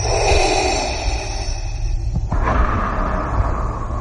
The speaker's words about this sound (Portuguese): E a partir daí, claro, ficámos a reconhecer aquela respiração tão característica de Darth Vader.